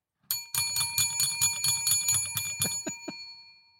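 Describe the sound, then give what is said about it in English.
A small handheld metal bell, dropped, clatters and rings in a rapid run of about a dozen bright, jangling strikes, then fades out with a few final dings. It is fairly loud, with no voices. “Oh, my God, I dropped my bell.”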